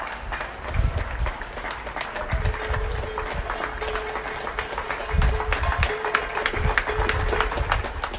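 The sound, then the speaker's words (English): Steady, dense clapping from many people up and down an outdoor street and on balconies, mixed with sharp metallic clanks and bangs of pots being struck to show appreciation for healthcare workers, forming a continuous noisy din with a faint sustained tone running underneath. “healthcare workers by clapping and banging their pots”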